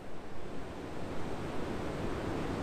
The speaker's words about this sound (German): Unbeirrbar rollen Wellen auf den weißen Strand.